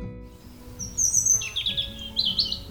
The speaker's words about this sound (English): The robin.